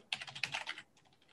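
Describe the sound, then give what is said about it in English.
A quick burst of typing on a computer keyboard as someone corrects typing mistakes: a rapid run of crisp key clicks for under a second, then a few fainter taps trailing off, with no talking. “I'm assuming it's Ryan going in and correcting my typing mistakes in there.”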